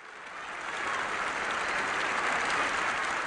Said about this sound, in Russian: А 11 февраля 1990 года Радио ООН транслировало выступление в Генеральной Ассамблее легендарного лидера борьбы с апартеидом Нельсона Манделы, который провел в тюрьме 27 лет. Его встретили бурными, нескончаемыми аплодисментами.